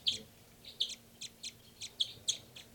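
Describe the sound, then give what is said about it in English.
Repeated high-pitched bird chirps from birds numbered 298 and 318 being recorded, about eight short bright notes in an uneven rhythm, fairly quiet over a low steady hum, with no talking. “So recording now, birds 298 and 318.”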